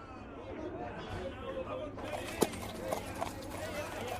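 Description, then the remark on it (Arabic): The hooves of a donkey carrying two riders, Juha and his son, clip-clop along a road, a handful of sharp, uneven strikes standing out in the second half over a steady murmur of background noise and faint voices. “فكر جحا في كلام المرأة فاقتنع برأيها وركب إلى جانب ابنه فوق الحمار، وأخذ يقطعان الطريق وكلاهما فوق ظهر الحمار.”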